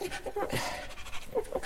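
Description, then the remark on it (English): A voice imitates a Chihuahua panting, with quick, breathy, rhythmic huffs repeating for a couple of seconds, with no talking. “Let's hear from you, the Chihuahua. Hot.”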